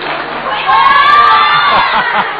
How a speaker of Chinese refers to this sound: 来吧，我们用掌声祝贺一下张鹤伦啊！